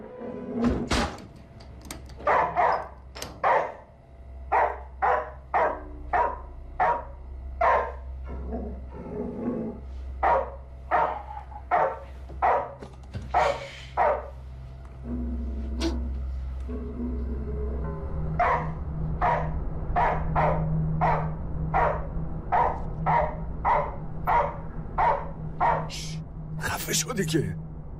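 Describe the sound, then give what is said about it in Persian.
A dog barks over and over in quick, steady bursts, loud, pausing briefly partway through before starting up again, with a low background hum and someone speaking at times, telling the dog to stop and be quiet. “تمومش کن، خفه شدی که. برو بخواب. بسه، ساکت باش. خفه شدی که سگ لعنتی.”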